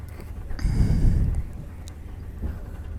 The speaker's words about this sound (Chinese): 是因为火车的噪音太大吗？